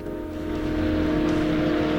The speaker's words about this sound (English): A car pulls up outside the house.